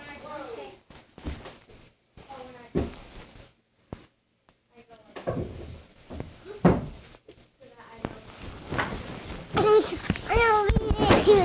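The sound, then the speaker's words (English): A drawer slides open and items inside are rummaged through while looking for a book, with repeated knocks, clatters and scraping. Voices talk over the search, growing louder toward the end. “Oh, check in the drawer there. It might be in there. Look in the drawer.”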